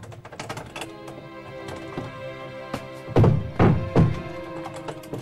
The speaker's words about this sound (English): He pulls out a pocket knife and forces the door.